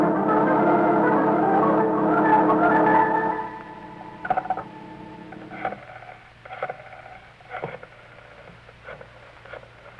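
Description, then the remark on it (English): A telephone being dialed: a steady buzzing tone for a few seconds, then a series of separate clicks and short rattles spaced about a second apart, with no one speaking. “And then I'll phone the police.”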